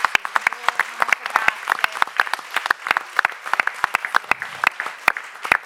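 An audience applauds steadily, many hands clapping in a dense, irregular patter of sharp claps that holds at a fairly even loudness throughout.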